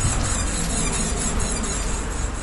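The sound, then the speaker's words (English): High, squeaky squealing like a little rubber duck being squeezed, carrying on steadily for a couple of seconds over a dense, noisy background with no talking. “Sounds like a little rubber ducky squeaking, huh, little buddy?”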